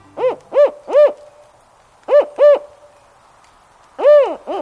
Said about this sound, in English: The plight of the gravely endangered spotted owl illustrates the imperiled status of the old-growth forest in the Pacific Northwest.